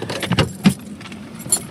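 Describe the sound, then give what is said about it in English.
Keys jangle in a few quick metallic bursts as they are left in a parked car, bright clinking rising over a low rumble of a car or engine in the background. “Should I leave the keys?”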